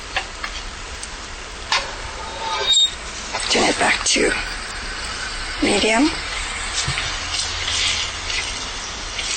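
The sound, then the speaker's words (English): Garlic and ginger sizzle steadily in a hot pan over a little higher than medium heat, a continuous bright crackling hiss with small pops, while a person speaks briefly over it. “So we have this in a little higher than a medium heat, and it's starting to sizzle right now.”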